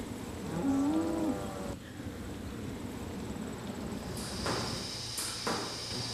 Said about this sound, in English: This room's called the milking parlor, and this is where we milk our cows.